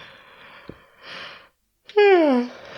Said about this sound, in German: Kurzer Gähner, Entschuldigung.